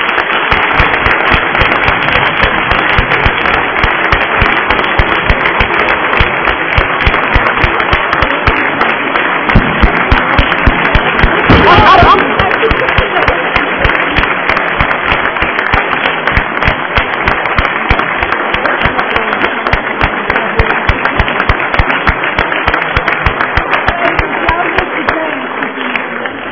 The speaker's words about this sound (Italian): Un applauso, grazie.